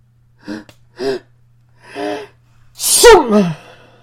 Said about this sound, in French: Un éternuement plus fort que les autres a entraîné un terrible tremblement de mer.